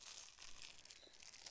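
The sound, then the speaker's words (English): Crisp crinkling of the crinkly fabric ear of an elephant in a touch book being squeezed and rubbed, a continuous rustle lasting a moment with no voices. “Rough elephant, a crinkly ear.”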